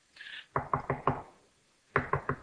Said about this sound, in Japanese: 一生懸命ペテロはドアを叩きました。